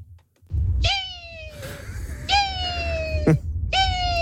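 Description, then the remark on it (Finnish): A person imitating a hawk gives three loud, drawn-out screeching calls, each sliding downward in pitch and spaced a second or so apart, over a steady low rumble of wind or handling noise. “Mä en tiedä, onko toi joku Tiira. Tiira enempi muu. Kai se haukka oli.”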